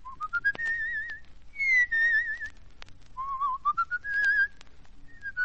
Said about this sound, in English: You know, people fall asleep if you whistle that way.